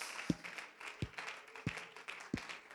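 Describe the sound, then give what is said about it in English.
An audience at a worship service claps hands to the Lord in a steady rhythm before being seated, with four strong, evenly spaced beats standing out over a continuous wash of scattered clapping. “Why don't you clap your hands to the Lord one more time before we're seated.”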